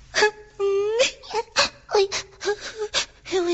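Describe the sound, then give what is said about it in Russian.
A voice imitates a little hedgehog crying bitterly: a steady run of wavering, high whimpering wails and sobs, broken by short catches of breath. “она побежала к маленькому ежу, уткнулась носом ему в грудь и горько заплакала.”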